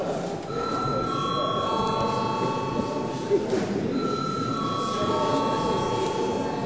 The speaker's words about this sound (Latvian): Tātad ir pienācis laiks pārtraukumam. Lūdzu zvanu.